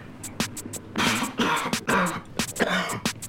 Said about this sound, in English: You okay? Yeah, just getting old. Seems I can't smoke a lap now without coughing. Coughing's good. It opens up the capillaries, you know.